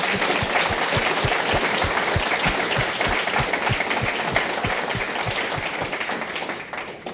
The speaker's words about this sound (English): Please join me in an applause of us great panelists.